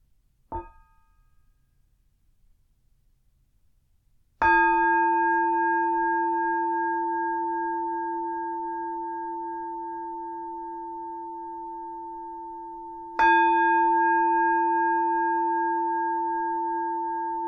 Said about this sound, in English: And we'll start with three sounds of the bell.